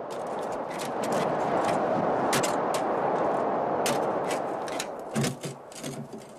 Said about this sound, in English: Someone's working a crowbar into the crack of the door, trying to open it.